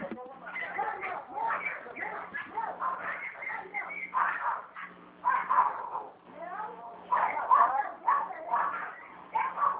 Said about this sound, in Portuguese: É que os cachorros estão brigando.